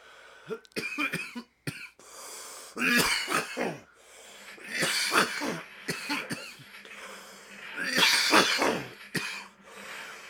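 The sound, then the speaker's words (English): A run of harsh, repeated coughs and throat-clearing fits, fairly loud, coming in several bursts over about ten seconds with raspy, breathy gaps between them. “I was gonna say, did you reactivate it with your coughing?”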